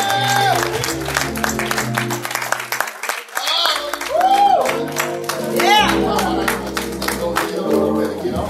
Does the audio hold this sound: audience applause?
yes